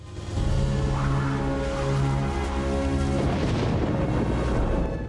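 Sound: thunder boom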